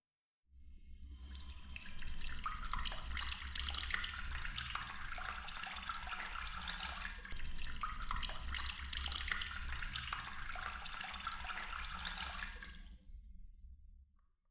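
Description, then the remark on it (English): Running water pours steadily into a basin, a continuous splashing rush that starts abruptly, holds for about twelve seconds, then cuts off. No voices. “The water inside this basin has been treated with Cell Revive.”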